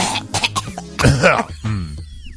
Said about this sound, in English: I turned it on right as you were clearing your throat.